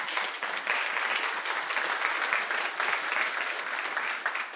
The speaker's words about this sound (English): So let's clap here for Matt.